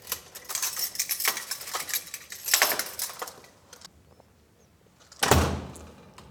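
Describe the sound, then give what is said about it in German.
A door into the staff area of a former telecommunications depot building is handled and pushed open with a burst of clicking, rattling latch noises, then a brief lull before it swings shut with a solid thud. “Wo müssen wir lang? Durch diese Tür.”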